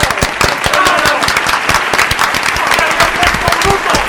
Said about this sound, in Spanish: ¡Gracias! ¡Un aplauso enorme! ¡Bravo! ¡Bravo! ¡Bravo!